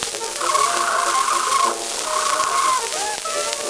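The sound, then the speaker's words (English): A caged cockatoo squawks in two long, loud, drawn-out calls, then gives a shorter cry at the end, over a busy, noisy background. “Cage full of beautiful birds, the plumage, hear the cockatoo.”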